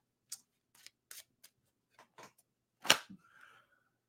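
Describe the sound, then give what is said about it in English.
Crisp, papery flicks and riffles come in short irregular bursts, ending in one louder slap and a brief soft brushing, like a deck of tarot cards being shuffled with no talking. “let's shuffle here.”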